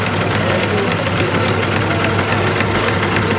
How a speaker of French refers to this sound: Et pour le second, machine à coudre.